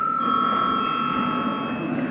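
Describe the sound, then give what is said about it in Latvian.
A steady electric bell rings continuously for about two seconds in a session of the Latvian Saeima to call a break, a sustained bright metallic tone with no pauses and no voices over it. “Lūdzu zvanu.”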